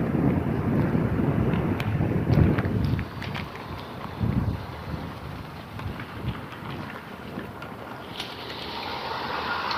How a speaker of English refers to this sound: It's the wind is a bit brisk. It feels a little chilly.